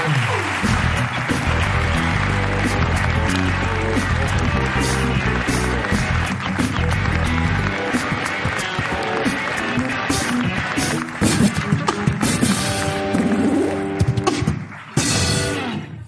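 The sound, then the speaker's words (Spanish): Sustained audience applause and cheering for Ricardo Castella blend with a loud band playing underneath, continuing steadily for the whole stretch before easing briefly near the end. “Un aplauso para Ricardo Castella, por favor.”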